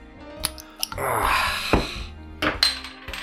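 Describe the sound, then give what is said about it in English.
A bottle of Paulaner wheat beer from Munich being opened, with clinks of glass, a sharp click and a brief fizzing hiss, followed by a few more small clinks and taps. “I'll just go and open it.”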